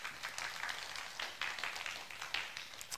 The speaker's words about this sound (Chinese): 同意的拍手，把荣耀给神。